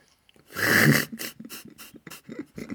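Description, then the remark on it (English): A dog pants: one loud, breathy huff, then a quick run of short, rhythmic, raspy breaths. No one speaks. “You can hear my dog getting involved.”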